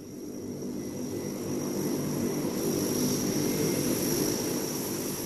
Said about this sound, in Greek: Να το αεροπλάνο, επιτέλους έρχεται κατά εδώ.